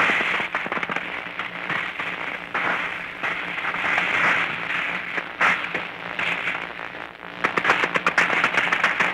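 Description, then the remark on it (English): A rapid exchange of gunfire between troops in battle crackles almost without pause, dense overlapping shots, swelling into sharper, louder bursts toward the end. “Being a rapid exchange over there with our boys putting out a little more than they're taking.”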